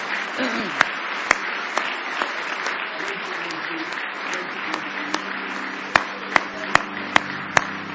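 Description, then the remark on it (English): A church audience at a morning service claps their hands in praise of Jesus, a steady, dense wash of applause, with a few sharper individual claps popping out above the crowd, while voices murmur underneath. “Give Jesus a big old hand clap of praise this morning.”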